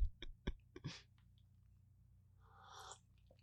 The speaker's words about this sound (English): And your daddy is going to take a sip of coffee.